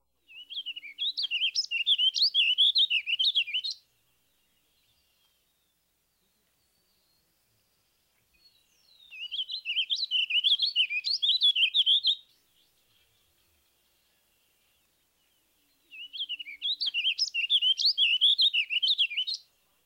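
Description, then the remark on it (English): A warbling vireo sings three rambling, evenly paced warbled phrases, each lasting a few seconds, separated by quiet pauses. The song is clear, with no other sounds around it. “Next, the evenly measured tempo of the warbling vireo.”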